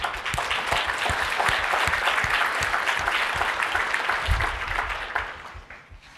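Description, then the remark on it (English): An audience at a conference applauds in a steady, dense round of clapping that holds strong for about five seconds, then fades out quickly at the end. “And I think they definitely deserve a round of applause for that.”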